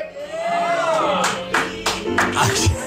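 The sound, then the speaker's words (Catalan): People applauding for Catalonia in loud, uneven bursts of clapping that start about a second in, following a wavering tonal sound and a busy crowd-like background. “Gent aplaudint Catalunya.”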